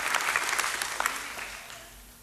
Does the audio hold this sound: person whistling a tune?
no